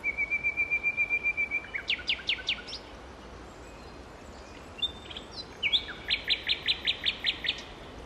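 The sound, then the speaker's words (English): A nightingale sings in clear, quiet air: a rapid trilled buzz, then a run of sharp rising whistled notes, a brief pause, and another fast, ringing phrase of repeated bright notes. “Listen. It's a nightingale.”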